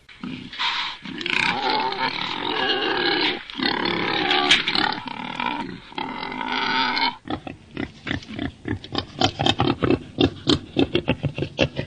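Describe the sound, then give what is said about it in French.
Deep, harsh grunting and snorting from a wild boar, first in long rough squeals and roars, then a rapid series of short rhythmic grunts, loud with no voices. “Ce n'est pas un cochon. C'est le sanglier. Donc là, on a entendu le grognement du sanglier.”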